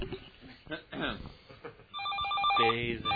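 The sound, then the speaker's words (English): A telephone rings with an incoming call on the open phone lines of the Rant Radio 26-hour marathon, its bright repeating electronic tone starting partway through and continuing to the end, heard over background voices talking. “The phone lines are open. I don't know what people are like, open the phone lines, open the phone lines.”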